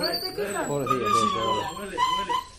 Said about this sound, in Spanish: Esto es un sonido que hemos recopilado esta mañana a un perro que se llama Brutus